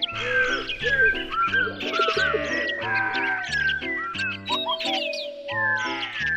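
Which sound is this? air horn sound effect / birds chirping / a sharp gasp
birds chirping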